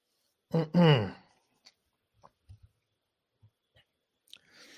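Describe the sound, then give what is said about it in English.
Drinking sounds of someone sipping a cold Twix latte: a short voiced murmur near the start, followed by a few faint, scattered mouth clicks and swallows, ending in a soft breathy rush. “And let's take a sip of this cold Twix latte.”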